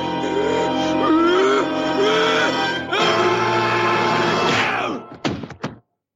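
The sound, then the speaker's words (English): A strained, wavering voice moans and whimpers, then two or three sharp punching thwacks land in quick succession as Homer punches Mr. Burns, knocking him out, before sudden silence. “So that at the end you heard was Homer punching Mr.”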